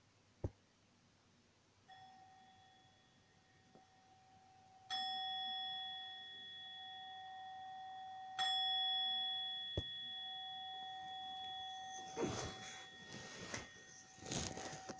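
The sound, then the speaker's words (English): A meditation bell is struck three times to begin a meditation, each clear, resonant strike ringing out and lingering in a long shimmering sustain before the next, followed by some soft rustling near the end. “So having done this preparation to start the meditation itself will start with the sound of the bell.”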